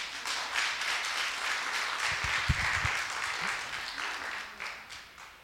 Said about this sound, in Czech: Potlesk.